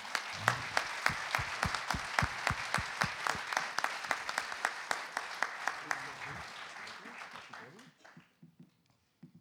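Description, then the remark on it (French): A crowd bursts into loud applause, its claps falling into a steady, rhythmic beat, then thinning out and fading away after about eight seconds. “Donc, ça mérite un énorme applaudissement.”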